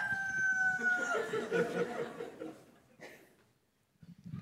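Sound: rooster crowing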